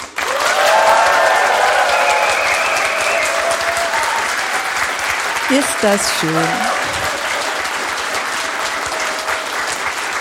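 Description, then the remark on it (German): A live audience applauds steadily throughout, a dense, loud wash of clapping with some cheering, while a woman briefly speaks over it partway through. “hört mal, wir haben Publikum.”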